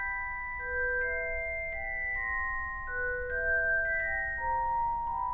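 A celesta plays a gentle, bell-like melody of sustained, chiming notes that step up and down at a steady, unhurried pace, clear and fairly close over a soft low hum, with no voices.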